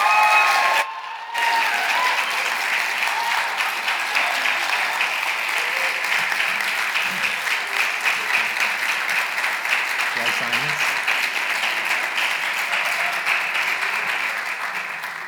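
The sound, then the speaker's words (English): A church audience breaks into sustained, steady applause for a man who has just accepted a church office, a dense wash of clapping that carries on evenly for about fifteen seconds after a brief pause at the start. “Can you guys give him a round of applause?”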